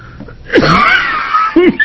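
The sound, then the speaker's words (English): A representative at a committee hearing sneezes loudly and sharply, followed by a breathy, wheezing trail and a second shorter explosive burst, with no talking. “God bless you, Representative.”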